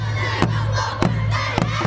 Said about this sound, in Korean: 서울 양천구의 한 고등학교 앞. 수능 대박! 와! 시험 잘 보세요! 시험의 긴장 때문에 잔뜩 몸을 움츠린 수험생들을 위한 고등학생 후배들의 힘찬 응원 소리가 시끄럽니다.